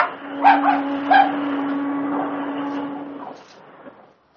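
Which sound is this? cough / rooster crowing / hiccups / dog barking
dog barking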